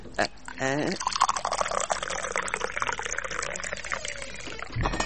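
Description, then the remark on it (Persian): Tea is poured into a glass in a steady stream lasting several seconds, with the splashing liquid filling the glass. Faint voices can be heard in the background. The tea is freshly brewed. “بده که برش چای پرتم.”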